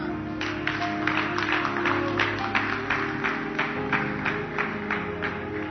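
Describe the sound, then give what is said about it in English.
An audience claps steadily for several seconds, a dense patter of hands at moderate volume, with a sustained low musical tone humming underneath. “You will not clap for me.”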